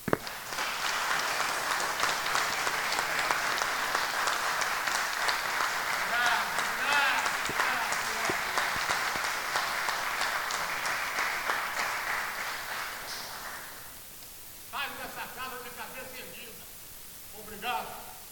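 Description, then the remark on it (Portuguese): Sustained applause from an audience at a city council session, applauding a councilman, dense and steady for about thirteen seconds before fading out, followed by a brief spoken voice near the end. “E eu acho que ele merece uma salva de palmas, né?”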